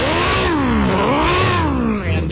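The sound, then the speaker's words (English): A voice imitates a loud car engine revving without a muffler, like the Fast and the Furious-style cars driven by kids, the pitch climbing and dropping in a couple of waves for about two seconds, continuous with no other talk. “Because not only were there all those cars like the 57 Chevys and I guess, and all the kids that are there with the Fast and the Furious cars, no mufflers, so all you're hearing all hours of the day and night is just that.”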